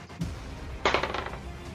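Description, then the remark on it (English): A twenty-sided die, rolled for an arrow attack in a tabletop role-playing game, tumbles across a hard surface: a sharp clatter followed by a quick run of light, rattling taps that gradually settle, with no voices present. “Okay, well, you are rolling your d20, and you're trying to be an unplus 12.”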